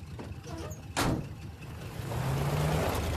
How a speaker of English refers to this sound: As the truck pulls away, a bug advances on it and gets squished under the wheels.